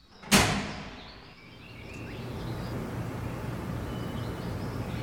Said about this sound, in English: Pull that lever to power up the facility, then that one to close the door.